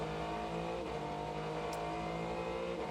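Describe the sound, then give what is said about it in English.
Prototype race car engines roar steadily and loudly as the field accelerates through a turn after a restart, led by Mike Conway in the red and white number 31 Whelen Engineering car; their layered, buzzing tones hold strong for the whole stretch, with no voices heard. “Restart was nice and clean, and at the front of the field, Mike Conway led them away in the 31, the red and white Whelen Engineering car.”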